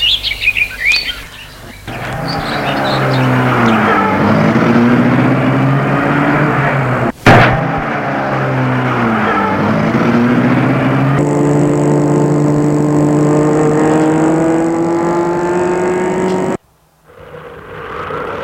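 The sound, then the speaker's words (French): A person gets into a car and starts it: the engine turns over and catches, then revs steadily higher as the vehicle pulls away, pausing briefly mid-acceleration before climbing again and cutting off abruptly. Loud, with no talking. “Pour que le portail est ouvert, il entre dans la voiture et la met en route.”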